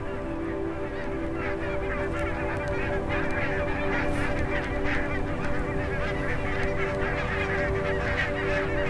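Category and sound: bird, geese honking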